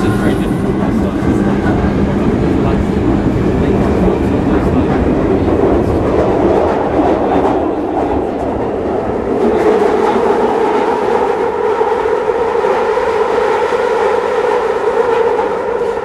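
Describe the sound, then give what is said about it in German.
A loud, steady roar of a London Underground Victoria Line train running on its tracks, with a sustained high squeal of wheels on rails rising over the rumble in the second half. “Das Quietschen ist technisch gesehen als Schienenquietschen bekannt und tritt bei den meisten Zugsystemen eben auf, ganz normal.”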